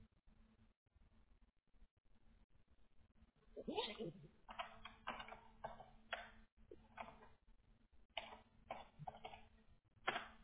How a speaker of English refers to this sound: Yeah, no, I'm grabbing a piece of paper and a pen.